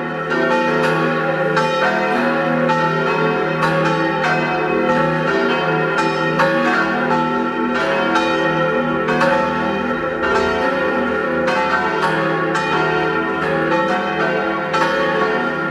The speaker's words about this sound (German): Es ist 12 Uhr. Sie hören die Glocken der Kirche zum heiligen Nikolaus in Eck in Vorarlberg.